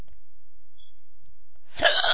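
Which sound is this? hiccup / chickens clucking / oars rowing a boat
hiccup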